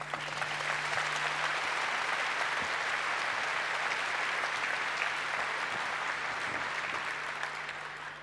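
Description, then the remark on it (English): Sustained audience applause for the Ultimate Apollo Guidance Computer talk, a dense steady patter of many hands clapping at even loudness for about eight seconds, with no voices over it. “So please give a warm round of applause for the ultimate Apollo guidance talk.”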